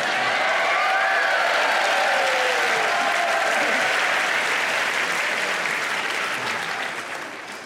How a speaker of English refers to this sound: Thank you. It really wasn't that long an applause.